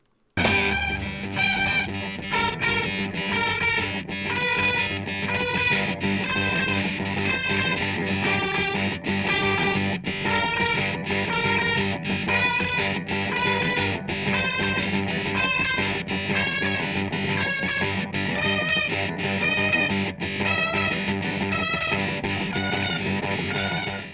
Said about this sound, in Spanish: dos guitarras sincopadas apoyan la guitarra solista a medida que asciende. Quienes tienen más conocimientos de música podrán notar que se logra tensión adicional utilizando una escala de tonos enteros a medida que subimos una octava de sol a sol.